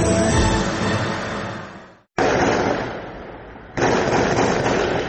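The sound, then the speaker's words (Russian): Loud, dense crackling bursts of rapid automatic gunfire mixed with booming explosions during an armed attack in Makhachkala and Derbent, Dagestan, arriving in three abrupt waves separated by a brief silence. Harsh, with no voices. “Грохот взрывов, автоматные очереди, полыхающие храмы и синагога.”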